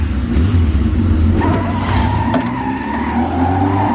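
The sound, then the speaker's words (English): A motorcycle engine rumbles loudly, then revs higher and pulls away, its pitch climbing as it accelerates, with no voices. “Angela has turned into a motorcycle mama.”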